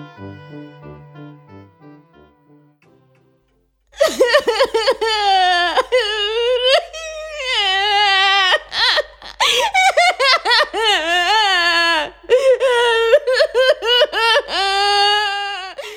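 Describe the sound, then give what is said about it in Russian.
In a stage play, a few soft musical notes fade out, then a woman, the tsar's daughter, bursts into loud wailing sobs, long quavering cries broken by short gasps that carry on to the end. “Слышится громкий, довольно неприятный женский плач.”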